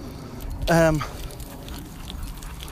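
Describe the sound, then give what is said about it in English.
A dog, seatbelted into the boot of a car, gives a single short, high whining cry that dips slightly in pitch, heard over a low, steady background rumble. “You know, tethered in the boot of the car, and he's still crying.”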